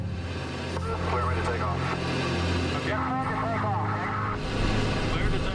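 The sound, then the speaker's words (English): The engines of the Voyager aircraft are started before takeoff and rumble with a steady, low droning hum that holds loud for several seconds, with faint muffled voices mixed underneath. “So I hammered the canopy into place, I locked it down, and I started the engines.”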